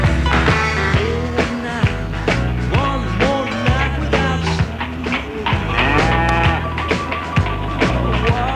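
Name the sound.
cows mooing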